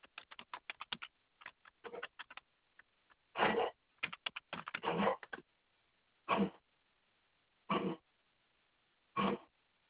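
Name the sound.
dog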